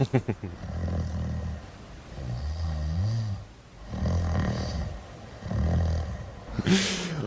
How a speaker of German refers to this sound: Habe ich geschnarcht? Ein bisschen. Oh, das tut mir leid. Vielleicht können wir da noch passende Soundaufnahmen einspielen.